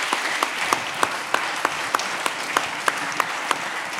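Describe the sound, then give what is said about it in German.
Steady applause from an audience for Florian Illies, a dense wash of clapping with a few sharper individual claps popping out at a regular pace, sustained at moderate loudness with no talking. “Ein Applaus für Florian Illies.”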